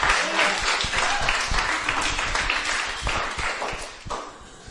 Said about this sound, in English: That was beautiful. Come on, give a cheer.